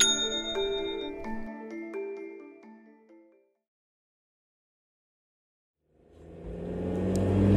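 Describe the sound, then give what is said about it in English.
A ringing tonal chime fades out, followed by a pause of silence, then a car's engine and road roar swell in quickly and grow loud as the car is driven furiously. “Meanwhile, Tanya drives furiously.”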